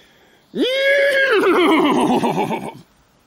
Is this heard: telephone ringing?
no